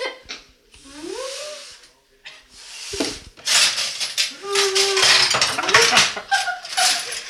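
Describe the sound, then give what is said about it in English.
A loud, chaotic clatter as a grandmother drops all the dishes, crashing and rattling together, with bursts of clanking over several seconds, mixed with a few short swooping tones and some faint breathy noise. “And Grandma drop all the dishes.”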